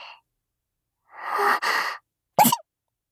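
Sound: sneeze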